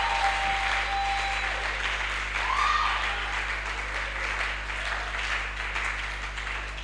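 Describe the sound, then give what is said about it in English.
A church audience applauds as a clap offering to God, with dense, continuous clapping that holds steady for several seconds, a broad hiss of many hands with no individual claps standing out and no voices on top. “I want a more joyful clap offering to God.”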